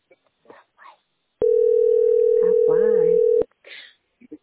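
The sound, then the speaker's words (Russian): A loud, steady telephone tone holds at one mid pitch for about two seconds, with voices speaking before it, over its end, and after it cuts off. “Круто, ваша позиция и гудки.”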